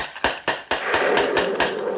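A traveler on foot knocks with a gate door knocker on a stormy night, striking about seven times in quick, evenly spaced, loud raps, with a steady rushing hiss of storm noise underneath and no talking.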